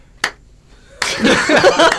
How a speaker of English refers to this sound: What does the room sound like with one man clapping? That's what it sounds like.